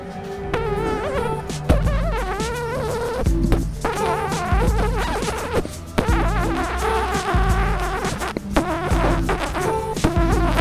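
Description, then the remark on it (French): A voice imitates a mosquito's buzz, a loud, nasal whine with wavering pitch that carries on for about ten seconds with only brief breaks for breath. “Tu saurais me dire quel bruit ça fait, un moustique ?”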